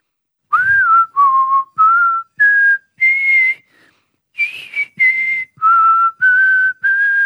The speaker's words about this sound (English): Yeah, I know, pretty cool that I can whistle the American national anthem.